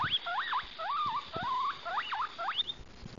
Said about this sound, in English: Here you can see a baby guinea pig calling for its mum.